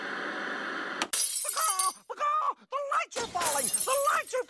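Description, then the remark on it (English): After a second of steady hiss, a sudden loud crash of breaking, shattering glass as the studio lights fall, with falling debris clattering on and off for several seconds while raised voices cry out over it. “The lights here in our studio are falling.”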